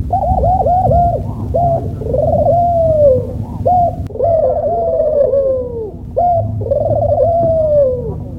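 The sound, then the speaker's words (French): Crows call repeatedly in a mix of birdsong, short hoarse notes in quick bursts then longer drawn-out calls, loud over a steady low background rumble. “À tel point que les corbeaux, pour ne pas être en reste, ont tenu eux aussi à participer au concert.”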